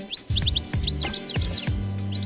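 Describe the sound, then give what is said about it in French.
A European goldfinch calls in a rapid run of bright, twittering chirps, clear, over a low humming, tonal background that swells in and out. “Et là, le plus beau avec cet oiseau, c'est de le voir parce qu'il est particulièrement élégant, d'où son nom de chardonneret élégant.”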